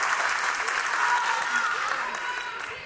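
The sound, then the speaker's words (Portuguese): Steady audience applause after an answer in a question-and-answer session, a dense wash of many hands clapping at a fairly loud, even level throughout, easing off slightly toward the end. “Palmas.”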